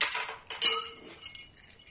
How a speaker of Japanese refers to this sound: 今、氷の音が聞こえますね。 はい、聞こえますね。 ごめんなさい、僕です。